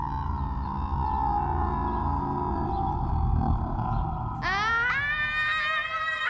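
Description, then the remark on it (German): A deep, steady growl rumbles low for several seconds, then breaks into a loud, rising, drawn-out yowling cry near the end, like a large beast; a large, shaggy creature in a lake's water. “Etwas Großes, Knurrendes.”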